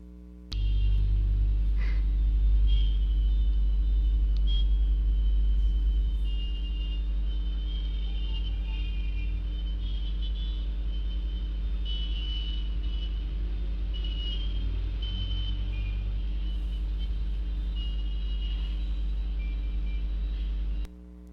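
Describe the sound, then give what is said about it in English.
Steady road traffic at an intersection with a deep, continuous engine rumble from cars and trucks passing, thin high beeping tones drifting in and out over it, and no one talking. “If everyone became a good, conscious driver, and begin to yield to each other and help each other on the road”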